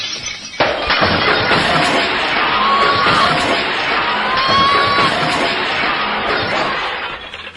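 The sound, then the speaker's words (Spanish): Glass shatters and crashes amid a loud, chaotic din that starts abruptly after a brief quiet moment and continues throughout, with shouting voices mixed into the commotion. “Mejor que salga este hombre de aquí porque, hombre, ya cristales no quedan más.”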